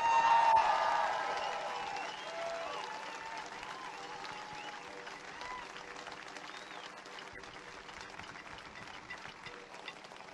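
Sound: big round of applause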